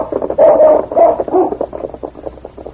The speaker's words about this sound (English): The intelligent dog circled around a moment, then once more barked to indicate he had picked up the scent. King has the scent again. He's heading down Main Street toward the hotel.